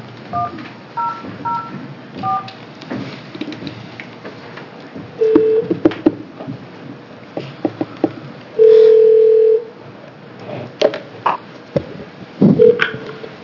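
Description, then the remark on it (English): A telephone line with short keypad beeps and a sustained, steady dial tone lasting about a second, amid soft clicks and low background noise, with no one talking, as a call is placed to Chief Brian Harvey of the LeGrand Police Department to testify by phone to a House Judiciary Committee hearing. “The next committee will be, or now we're going to call Chief Brian Harvey from the LeGrand Police Department and have him testify by phone.”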